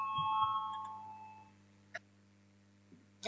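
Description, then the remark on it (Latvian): A voting bell in a parliament chamber, rung to call a vote on a transport minister's proposal, rings out clearly and fades over about a second and a half, leaving quiet with a low hum and a couple of faint clicks. “Lūdzu, zvanu, balsosim par trešo satiksmes ministra Linkaita priekšlikumu.”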